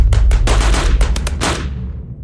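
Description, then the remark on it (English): A rapid burst of machine-gun fire, roughly a dozen loud sharp cracks in quick uneven succession over a heavy low rumble, then a fading echoing tail. No voices. “I heard a shot from one of the vehicles, and I guess that it came from an MG-42.”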